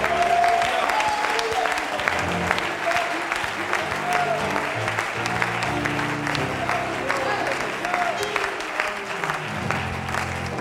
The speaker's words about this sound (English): If you believe that, you ought to clap your hands before you're seated.